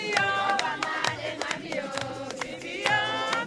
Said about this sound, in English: As he walked back to the port to catch the ferry to the mainland, crowds of people thronged the walkway singing songs about Obama.